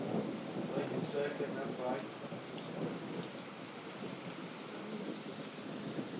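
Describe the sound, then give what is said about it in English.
Steady rain from a thunderstorm hisses and patters throughout, with a low, rolling rumble of thunder underneath moving in the opposite direction to the rain, the whole scene holding at an even, moderate level without any sharp cracks. “The thunder seems to be going in the opposite direction to the rain.”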